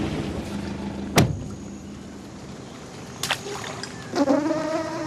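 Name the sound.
mosquitoes buzzing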